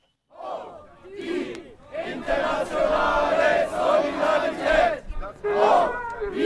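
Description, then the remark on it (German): A crowd of protesters, mainly left-wing groups, shouts and chants in unison on the Bahnhofplatz in Bern early on a Sunday afternoon, protesting against the US attack on Venezuela; voices rise in loud, sustained bursts with brief dips between phrases, a dense wall of overlapping yelling. “Es waren vor allem linke Gruppierungen, die am frühen Sonntagnachmittag auf dem Berner Bahnhofplatz gegen den US-Angriff auf Venezuela protestierten.”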